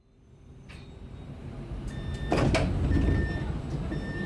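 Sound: train station ambience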